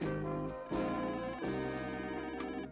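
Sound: telephone ringing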